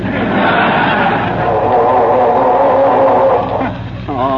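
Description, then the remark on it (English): A car engine cranks with a loud grinding churn that keeps sputtering without catching, continuing for several seconds before a brief dip and a voice-like tone at the end. “I'm trying to get this dad-ratted car started, if you must know.”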